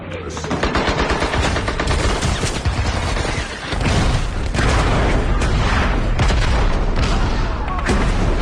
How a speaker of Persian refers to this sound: های مسلسل مثل تگرگ به سمتمون میبارید. متوجه نشدم که صدای فشفش صدای گلوله هاست. اطراف رو نگاه کردم و دیدم آدم های دورم دارن میفتن زمین.